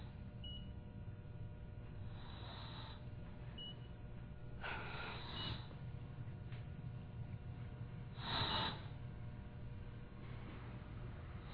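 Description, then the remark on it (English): A manual resuscitation (ambu) bag being squeezed to breathe for a patient taken off a ventilator gives soft, airy whooshes every few seconds. Faint short beeps and a steady low hum sit in the background. “The ambu bag is breathing for him now.”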